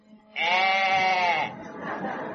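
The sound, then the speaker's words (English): A single long, quavering goat bleat, loud and wavering in pitch, apparently a human voice imitating Billy, the regimental mascot at the Duke of York's barracks in London, followed by a softer, breathy trailing sound. “From the Duke of York's barracks, I caught the sound of Billy, the regimental mascot.”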